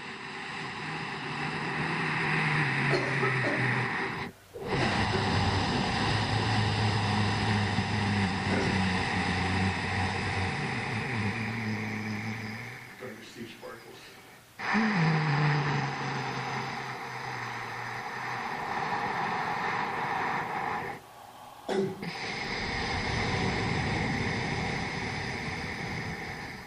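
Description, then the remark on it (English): Deep, slow ocean breathing (also called warrior breath) during a guided breathing exercise, with a rushing, ocean-like hiss: long drawn-out inhales and exhales, loud, separated by a few brief pauses, with no talking. “That's sometimes called ocean breathing or warrior.”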